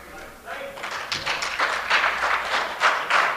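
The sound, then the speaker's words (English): Sparse, uneven applause from a small number of people: irregular claps that rise after a quiet start and continue unevenly at a moderate level. “Well, that wasn't widespread applause.”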